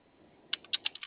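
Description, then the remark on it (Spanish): Six quick clicks on a computer keyboard in a loose, uneven rhythm, fairly crisp, following a short stretch of quiet room hiss with no voices. “Ya siguió el teclado.”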